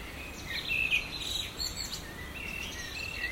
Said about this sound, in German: Ich sitze hier zwar auch, um zu entspannen, den Abend zu genießen, das Vogelgezwitscher, das Rauschen der Mulde